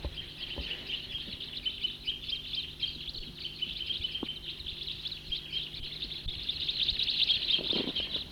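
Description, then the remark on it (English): A big flock of about 20 crossbills calls in a dense, continuous chorus of high, sharp chips and twitters that swells louder toward the end, with no voices. “Big flock, about 20 birds there”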